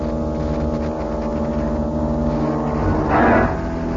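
An organ imitates a car starting: a low, steady, buzzing chord of sustained tones that swells into a brighter, louder burst near the end, with no voices.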